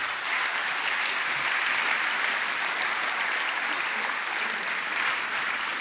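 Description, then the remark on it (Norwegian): Steady, sustained audience applause for a woman on her way up, a dense wash of many hands clapping at an even, loud level for about six seconds with no voices on top. “og hun fortjener en applaus bare på vei opp.”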